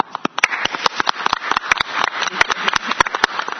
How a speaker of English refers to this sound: We're testing the audio with the clapping.